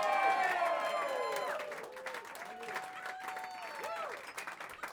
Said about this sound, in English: Please keep clapping and give it up for these guys up here.